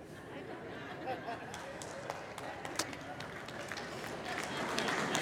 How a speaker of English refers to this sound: Now, some of you men are applauding, but I'll just go ahead and say it.